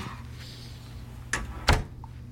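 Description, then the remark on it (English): A hotel room door being unlatched with a key card and pushed open, heard as two quick, solid clunks a moment apart against a low, steady hum, with no voices. “I never have luck with these cards.”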